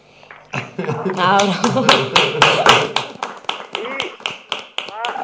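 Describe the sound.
A studio audience on a programme claps in a steady rhythm for a guest who had not yet been applauded, sharp even beats repeating quickly for several seconds, while voices call out and talk over the clapping.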